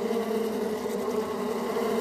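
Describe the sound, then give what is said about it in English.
A dense swarm of bees drones continuously, a thick, steady buzzing hum that fills the whole two seconds without pause or change, with no voices present. “Here's a clip of an actual swarm of bees.”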